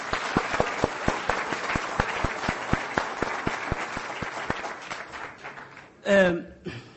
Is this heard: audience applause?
yes